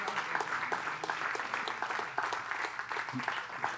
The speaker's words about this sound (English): You can clap for him, you can clap for him. Keep clapping, come on, you can make some more. Come on, stand up, come on forward. Keep going, they're moving slow. Keep clapping, keep clapping, keep clapping, keep clapping.